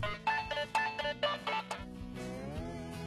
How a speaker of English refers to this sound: Oh, bye, there's somebody on the phone.